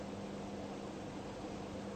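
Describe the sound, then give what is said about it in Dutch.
A steady, low electric fan hum with a faint tonal drone and even airy whoosh, continuous and unchanging throughout, fairly quiet, with no voices. “Wanneer je in het lichaam zit, dan zeg je, ik hoor hier het geluid van de ventilator.”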